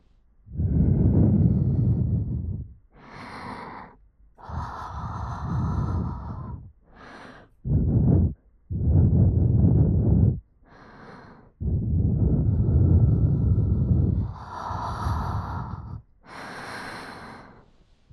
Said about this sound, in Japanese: こちらだけではなく、反対のお耳にも吐息を吹きかけてみましょう。